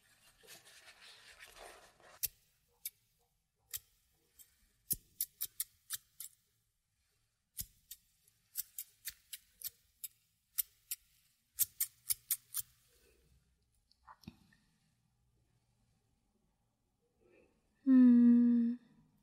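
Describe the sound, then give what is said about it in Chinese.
Crisp snips of a barber's scissors, being tried out to see whether they are still sharp, come in quick irregular bursts, some single and some in rapid runs, over a near-silent background, followed by a short, loud voiced sound at the end. “过了这么久，房屋都长了小树呢，不知道我的剪刀有没有腐朽。”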